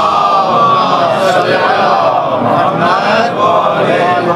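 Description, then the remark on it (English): An audience at a talk loudly chants salawat (salat ala Muhammad) in unison, many voices blending into one sustained, rising and falling chorus that fills the whole few seconds without a break. “Send me a nice loud salat ala Muhammad.”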